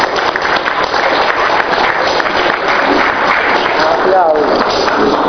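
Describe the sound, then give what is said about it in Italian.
Steady audience applause at an evening gathering near midnight, thanking someone for the catering, a dense wash of many hands clapping at even loudness throughout, with faint voices mixed in underneath. “Ah vabbè, sei Ursi, applausi.”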